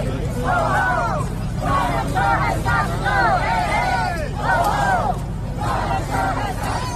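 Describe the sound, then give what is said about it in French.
A protest crowd in Times Square chants "Hey, hey, ho, ho, Whitaker has got to go" in loud, rhythmic bursts of shouted phrases, repeating over a steady bed of crowd hubbub and low traffic rumble, at a spontaneous protest against Matthew Whitaker's appointment, defending special counsel Robert Mueller's investigation. “Alors, il crie « Hey, hey, ho, ho, Whitaker has got to go ».”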